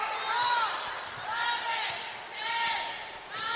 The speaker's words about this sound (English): Sydney Czar on the dribble near the center circle.